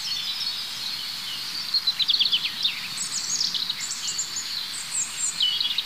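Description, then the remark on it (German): Several individual birds sing at once, the high, twittering song strophes of the different individuals overlapping and mixing over a steady hiss of insect-like background noise, with no talking. “Vor allem dieses Vermischen der einzelnen Strophen unterschiedlicher Individuen.”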